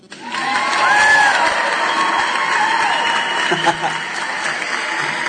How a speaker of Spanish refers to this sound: ¿Y los aplausos? ¿Qué pasó con los aplausos? ¿Todavía? ¿Se le quita la espontaneidad al asunto así?